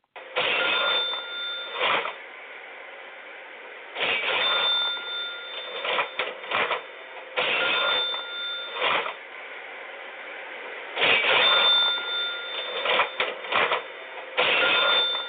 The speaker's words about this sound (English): I hear cash registers opening and closing. They're making money hand over fist. I hear this. What is it that I hear? I hear ka-ching, ka-ching, ka-ching, ka-ching.